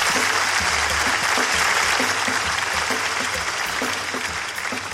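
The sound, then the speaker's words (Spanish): Sustained applause from an audience on the show Hablando Huevadas, a dense wash of many hands clapping at a steady, loud level for several seconds, easing slightly toward the end with no talking. “Eres un romántico, un fuerte aplauso para él.”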